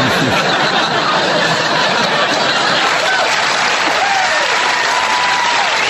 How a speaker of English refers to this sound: Applause break.